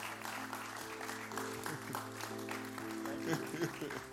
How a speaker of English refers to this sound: Can we give them one more big, big clap? Thank you.